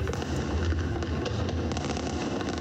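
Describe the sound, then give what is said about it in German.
Europe's largest fireworks display, in Budapest, with 40,000 fireworks set off over a 4-kilometre stretch of the Danube, thunders without pause: deep, rumbling booms overlap with bursts of sharp crackling, forming a dense, loud, steady barrage with no voices. “So klang das nämlich am vergangenen Wochenende in Budapest mit 40.000 Feuerwerkskörpern, die auf der Donau über eine Strecke von 4 Kilometern abgebrannt wurden”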